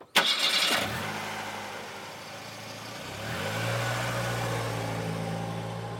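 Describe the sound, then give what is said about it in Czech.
A car engine cranks and catches with a sharp burst, settles into a low idle, then rises in pitch and steadies as the car pulls out of a garage. There is no talking. “Tajně jsem si vzal jejich auto a jel jsem na výlet.”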